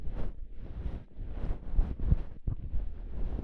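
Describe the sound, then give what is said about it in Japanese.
Soft fluffy brushing inside an ear with a fluffy winter-fur bonten ear cleaner reaching deep into the ear, a continuous rustling swish with irregular strokes and muffled bumps, fairly quiet and with no talking. “誰もが羨むふわふわの冬毛ポンテンで、お耳の奥まで綺麗に綺麗にしようね。”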